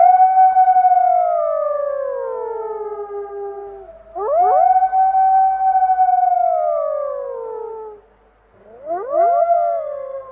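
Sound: dog barking and howling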